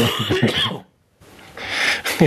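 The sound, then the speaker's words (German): A cough in a couple of harsh bursts with a throaty, throat-clearing edge, broken by a brief silence before a second rough cough. “Das ist das richtige Husten an der richtigen Stelle.”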